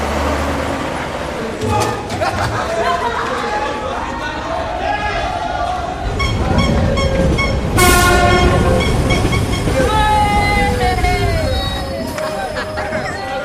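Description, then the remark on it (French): An RER commuter train rumbles through a busy station at Le Raincy, France, its horn sounding around the midpoint, with crowd chatter and clattering wheels mixing in the background. “Il saute par-dessus les portillons pour prendre le RER.”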